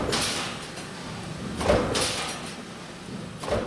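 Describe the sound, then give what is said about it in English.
Large metal stamping presses making seatbelt and brake parts run at auto parts maker Talent Tool & Die, a steady loud mechanical roar broken by several heavy clanking thumps at uneven intervals, with no voices. “those large presses are now making seatbelt and brake parts”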